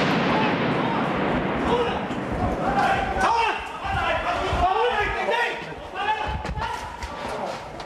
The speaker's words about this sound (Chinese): 嗰段片咧，嗰段槍戰咧，你係隔住個 mon， 就算你睇個手機睇 YouTube， 你喺度飆汗嘅。嗰段片咧就係、是、亞視先有。